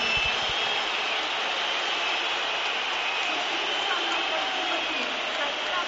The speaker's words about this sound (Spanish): Y el tercero va a ser Griezmann por Joao Félix. Vamos a ver si ahora es el momento. Esta es la pitada.